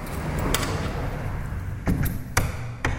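A window is shut, with a few sharp knocks and latch clicks spread over a few seconds against a steady low rumble of background noise. No one speaks.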